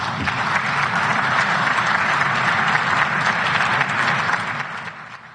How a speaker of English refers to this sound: So, and with that, J.D. Vance was finished. They did applaud him, but boy, they are upset.